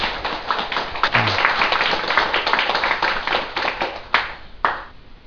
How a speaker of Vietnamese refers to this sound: Xin quý vị vỗ cho mình một tràng pháo tay.